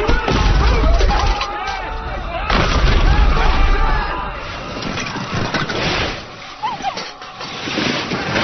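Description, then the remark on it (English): Ice cracks and breaks in loud, booming bursts that come in three heavy waves, with a deep rumble underneath and sharp splintering crashes riding on top. “The ice is cracking.”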